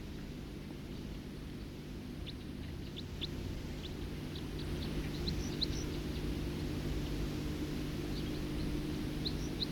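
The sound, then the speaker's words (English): Short, thin high chips from a songbird in flight, scattered and repeated throughout, fairly faint over a steady low engine-like drone and background hiss. “Flight call of a songster again.”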